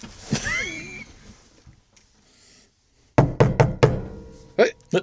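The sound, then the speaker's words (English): A voice with rising, swooping tones comes first, then a quick series of firm knocks on the door of a bunker, three or four close together, followed by one more after a short pause. “Is it that the door? We have a door on this bunker?”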